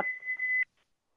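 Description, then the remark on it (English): A kitchen timer gives one steady, high electronic beep lasting just over half a second, then cuts off, leaving a faint brief blip and quiet. No one speaks. “Sorry, there was a timer going off, but I didn't know it was on.”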